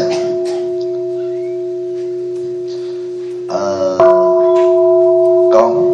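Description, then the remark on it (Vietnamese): A bell is struck three times, each strike a bright metallic clang, over a steady sustained ringing tone that hums underneath. The last two strikes come in quick succession with a short pause between them. “Rồi đánh ba tiếng chuông”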